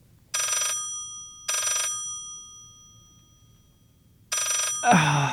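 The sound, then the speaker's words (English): A home telephone rings three times in evenly spaced bursts, clear, with quiet pauses between; an answering-machine greeting begins right after the third ring. “But When the phone rings at odd times, you know, what happens if you don't pick up the phone?”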